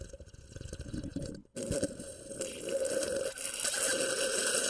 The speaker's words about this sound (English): Quite a sip. Nobody drinks coffee like that.